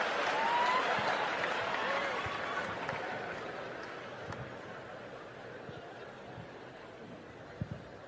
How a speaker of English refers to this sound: You all just clap for a dead baby.